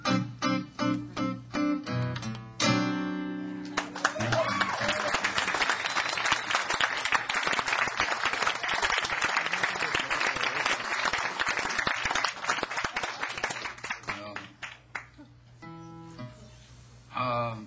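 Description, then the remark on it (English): An audience breaks into loud, sustained clapping right after a short musical ending, a dense wash of applause lasting around ten seconds before tapering off. “I guess everybody's clapping for that rum and whiskey with a little bit of a tequila chaser and some coffee on top.”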